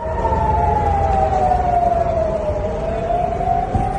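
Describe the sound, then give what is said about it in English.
A steady, loud air raid siren wails continuously over Tel Aviv, Israel, during a Hezbollah ballistic missile attack, its long tone sliding slowly down and back up, with a broad rumble of background noise underneath and no voices. “Sirens were heard over the city and Israeli defence systems intercepted the missile.”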